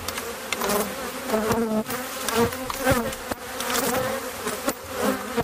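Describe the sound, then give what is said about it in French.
A dense, continuous buzzing of many bees swarming around a hive, a layered droning hum with individual insects rising and fading as they fly past, no voices. “nous allons dans un monde minuscule pour l'observateur, le monde des abeilles”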